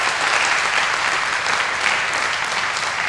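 Steady, dense applause from an audience after Vadim Makarov's talk "Can Quantum Physics Break Cryptography's Curse?", a continuous loud wash of many hands clapping at once with no pauses or voices standing out.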